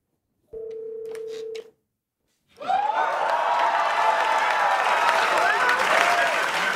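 A short steady telephone-like tone is followed by silence, then a Saturday Night Live studio audience bursts into loud, sustained cheering and applause as Stormy Daniels appears, with whoops rising above the clapping until the end.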